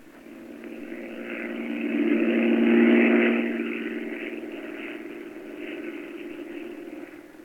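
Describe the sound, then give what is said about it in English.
A droning propeller-plane engine, flown by Jack Knight, circling over the airport at Bellefonte: a steady low hum with buzzing overtones that swells to a peak after a few seconds, then slowly recedes and lingers on. No voices. “I can't stand listening to that plane up there circling the airport.”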